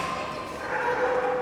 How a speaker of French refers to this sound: Un chien qui grogne,